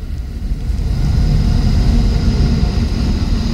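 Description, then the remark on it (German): A steady, heavy low rumble from an old Russian railways sleeper train car rolls on without a break, with a faint high whine above it and no voices. “welche quietschenden und ächzenden Geräusche der schmucke alte Schlafwagen der russischen Bahn von sich gibt.”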